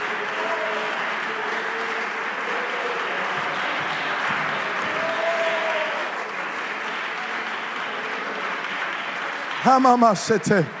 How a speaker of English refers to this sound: Come on, somebody clap their hands and thank the Lord for it.